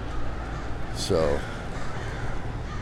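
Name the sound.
crows cawing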